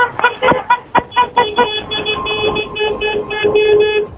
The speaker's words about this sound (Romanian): Și pentru că treceți pe lângă ei și ați fost poate în situația asta, haideți să-i claxonați un pic. Câteva claxoane vrem să auzim. Salut pentru tinerii căsătoriți!